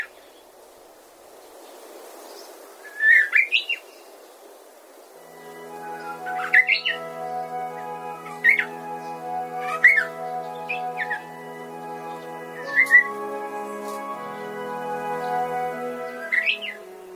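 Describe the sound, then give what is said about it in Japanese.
A Japanese bush warbler in the Sayama Hills of Tokorozawa, Saitama Prefecture, Japan, gives short, scattered chirping calls every second or two, clear, while a steady sustained musical tone fades in underneath partway through. “今朝は埼玉県所沢市の狭山丘陵からウグイスの声をお届けしました。”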